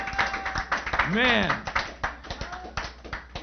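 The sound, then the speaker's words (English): A crowd claps steadily and rhythmically to the Lord throughout, lively, while a voice rises in a loud, sustained shout of praise partway through and other voices call out around it. “You know, when I hear you guys clapping to the Lord, it's just, it's your heart that loves him.”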